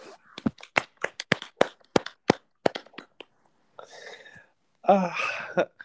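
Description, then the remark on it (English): A quick, slightly uneven run of about a dozen sharp hand claps over three seconds, followed by a brief pause, a soft rustling burst, and then a louder, noisy flurry of sound. “Clap if you care.”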